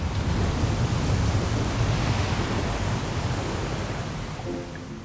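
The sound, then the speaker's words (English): A heavy rush of water gushes out through a building's open double doors and floods down a grand staircase in a continuous, loud roar that stays steady for the whole stretch, easing only slightly near the end, with no voices. “heaps of water gush out from the interior of the building and flood down the grand staircase below her.”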